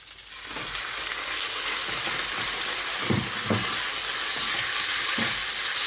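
Steady, bright sizzling of fried rice in a hot pan, with a few dull scraping knocks as its clumps are stirred and broken up. No one speaks.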